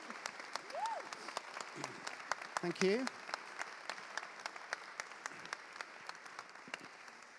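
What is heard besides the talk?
audience applause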